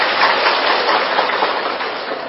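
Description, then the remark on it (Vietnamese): A crowd of Buddhist followers in a hall applauds in a dense, continuous wash of clapping that holds steady at a fairly loud level for a couple of seconds, with no voices over it. “Tôi chưa làm được gì cho các vị mà thiếu nợ mấy tràng pháo tay.”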